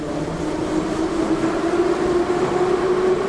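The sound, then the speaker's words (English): A train moves steadily along a loop line with a constant low rumble and a sustained tonal whine, fairly loud throughout, with no voices. “So that even if you can't understand exactly what's being said, you know which direction that train is going.”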